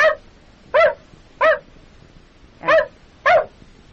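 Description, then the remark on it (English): A dog barks five times in short, sharp yips spaced unevenly over a few seconds, fairly loud, with a faint background hiss between barks and no talking. “And that's a dog.”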